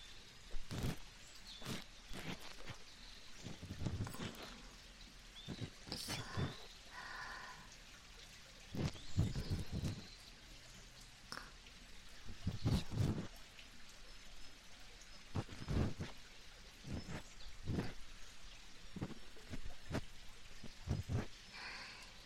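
A small stream flowing nearby babbles softly and steadily in the background, while brief scratchy rubbing sounds of a soft cotton swab being rubbed slowly and gently in an ear come and go on top of it at irregular intervals.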